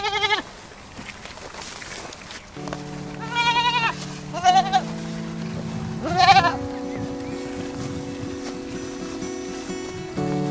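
Goats bleat several times in wavering, quavering calls spaced a few seconds apart, over a steady low droning hum with no talking.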